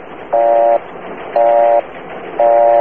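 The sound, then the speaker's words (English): A telephone busy signal: three steady, buzzy low tones, each about half a second long, repeating at an even pace with short silent gaps, heard over a thin phone-line hiss. “Okay, so it's a busy signal.”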